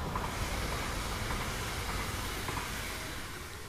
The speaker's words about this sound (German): Oh mein Gott, da kommt der Zug.